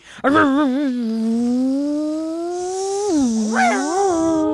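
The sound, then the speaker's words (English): A voice imitates a NASCAR race car shifting gears, a sustained buzzy vocal engine drone whose pitch wavers, climbs slowly, then drops and sweeps back up at each gear change, loud and unbroken. “I was shifting gears in my NASCAR. Sounded a lot like the jet plane,”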